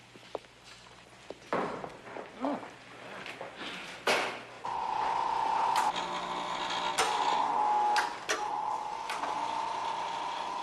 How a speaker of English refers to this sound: How does he eat? His digestive system is extremely simple. This processor dispenses a rudimentary paste that sustains his organic system. Tastes like baby food.